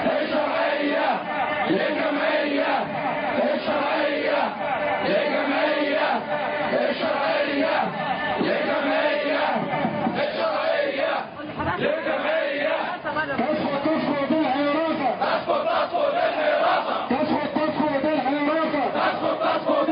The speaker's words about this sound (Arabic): قد تركزت هتافات المهندسين حول رفض الحراسة، وإن وجه بعض هذه الهتافات إلى الدكتور عصام شرف رئيس الوزراء في إشارة منهم إلى عدم تحرر النقابة من فلول النظام السابق